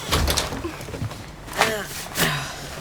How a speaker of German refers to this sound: Mach die Tür zu, Opa.